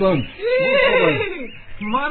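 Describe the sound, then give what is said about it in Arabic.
A horse whinnies loudly, a shrill, wavering neigh that rises and then trails downward over about two seconds, ending in a short snorting flutter. “مرحبا يا حصان.”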